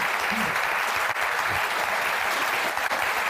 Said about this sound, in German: Ich glaube, der Beifall spricht seine eigene Sprache.